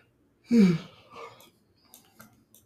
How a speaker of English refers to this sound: I'm yawning too much, man. I guess I'm just really tired.